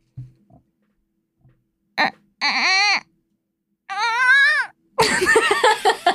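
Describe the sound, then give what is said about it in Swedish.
A person mimics a wailing newborn baby with a few rising, strained cries separated by short pauses, ending in a harsher, breathy outburst; the imitation is fairly loud. “Vi börjar med en bebis. Okej, okay, en bebis som gråter.”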